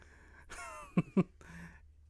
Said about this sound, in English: Sorry, guys. I apologize for my voice. I've been battling this cough and some other stuff.